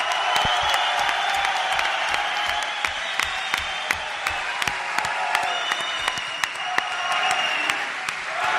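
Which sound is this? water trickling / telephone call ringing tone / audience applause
audience applause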